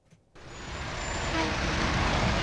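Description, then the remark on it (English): After a brief quiet moment, the deep, loud rumble of huge earthen-brown Memphis Department of Public Works garbage trucks rolling out of the city's sanitation yards at 7:30 in the morning swells up and keeps building, engines roaring steadily with a thin high whine riding on top. “At 7:30 in the morning, huge earthen brown trucks from the Memphis Department of Public Works roll out of the city's sanitation yards.”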